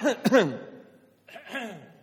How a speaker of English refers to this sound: So do try to cough for me for real.